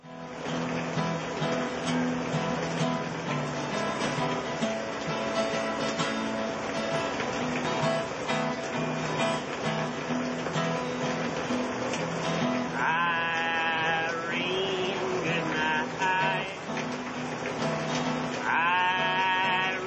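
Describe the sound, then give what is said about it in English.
Steady, dense rain from Hurricane Irene in August 2011, recorded by Jake Wildwood, hisses throughout at an even level, with sheep bleating repeatedly over it, their wavering cries rising above the downpour. “Rain from that storm in August 2011 is the background of this recording by Jake Wildwood.”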